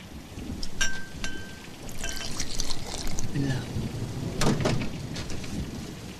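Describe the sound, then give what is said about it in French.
Gin pouring into a glass, a small measure for the 'petit Grégory' cocktail from the film C'est arrivé près de chez vous: a steady splashing trickle lasting several seconds, with a few bright glassy clinks and a brief ringing tone near the start. “Une larme de gin.”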